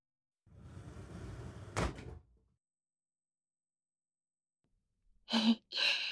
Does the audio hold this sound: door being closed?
yes